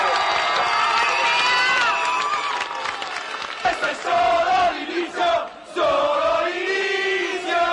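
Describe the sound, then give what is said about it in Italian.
A loud crowd at Fiumicino applauds and cheers continuously at the news, shortly after 4 pm, that CAI had withdrawn its offer for Alitalia; many raised voices shout over a dense wash of clapping, and the din dips briefly midway before surging back. “poco dopo le 16 è arrivata da Milano la notizia del ritiro dell'offerta CAI, accolta a Fiumicino dagli applausi.”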